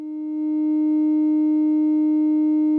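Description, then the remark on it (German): A steady sine tone from a synthesizer VCO, heard left and right, holds one pitch throughout, swelling in over the first half second and then sustaining evenly and fairly loud, with no other sounds. “Wieder hören Sie den Sinuston links und rechts, wie ich in das Mikrofon spreche.”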